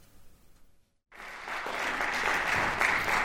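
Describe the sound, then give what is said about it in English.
After a brief near-silence, a concert audience bursts into steady, building applause after pianist Michael Arnowitt's performance of György Ligeti's Etudes, a dense wash of many hands clapping with no voices over it. “so you won't hear the Ligeti Etudes played by Michael Arnowitt, much as they were fantastic to listen to, so we'll just go back to, I don't know, where we left off with the applause and stuff.”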